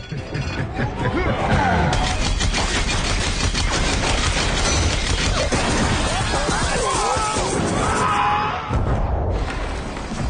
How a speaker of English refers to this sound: Rocksteady then gets in the tank and shoots the machine gun, completely destroys the front half of the plane, including most of the cockpit.